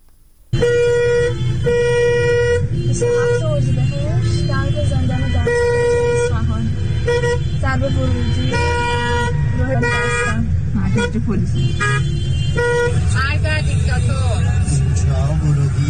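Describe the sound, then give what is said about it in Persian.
A dense chorus of car horns honks almost nonstop, loud, layered over a low rumble of idling traffic, with indistinct voices mixed in, in heavy traffic in front of Dastgerd prison in Isfahan, Iran, on a Wednesday night as crowds gather in protest. “آقا ترافیک جلوی زندان دستگرد رو نگاه کنید، تازه هنوز اینجا نرسیده به زندانه.”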